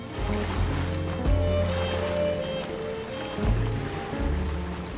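Ocean waves wash steadily onto the shore in a continuous rumbling hiss, with a couple of heavier surges swelling up partway through; fairly loud, with no voices.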